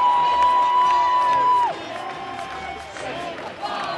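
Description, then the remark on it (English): A large stadium crowd roars and cheers continuously with whoops and shouts as Essendon beat Carlton by 24 points. The final siren sounds, a steady, loud tone over the noise for the first second and a half, then slides downward and stops. “As the final siren sounds, the crowd erupts, and the year that was comes to an end.”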